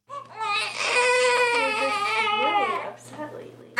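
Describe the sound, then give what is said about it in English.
A newborn baby boy, born with a tongue tie and just operated on to fix it, cries loudly and continuously in a high, wavering wail for about three seconds, then breaks into softer hiccuping sobs. “her newborn baby boy are both in tears.”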